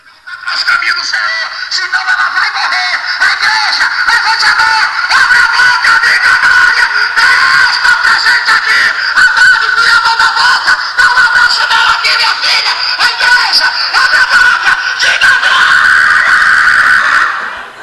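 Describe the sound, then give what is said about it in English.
A man's harsh, high-pitched scream, heard in the evening during a prayer time, held almost without a break for nearly eighteen seconds, loud and strained throughout, wavering slightly but never stopping. “And that screaming, that last part you heard, this guy could hold that for minutes at a time.”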